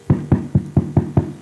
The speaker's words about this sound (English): So the pastor went to this home. When he got there, he knocked at the door.